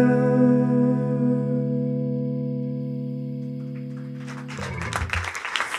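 A sustained, distorted chord rings out and slowly fades at the end of a live song on stage, then audience applause for the performer bursts in during the last second and a half, a dense crackle of many hands clapping.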